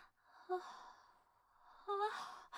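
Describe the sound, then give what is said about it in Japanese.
Two big, drawn-out yawns, one after the other, each opening with a voiced rising groan and trailing into a long breathy exhale, with no talking over them. “うわ、何さ。でっかいあくび。”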